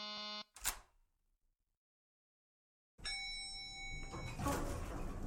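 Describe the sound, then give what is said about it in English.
An apartment door buzzer is pressed in a building vestibule and sounds twice: a short harsh buzz ending in a click, then silence, then a longer electronic buzz with some background noise. No one speaks. “I arrived in the vestibule as … door buzzer.”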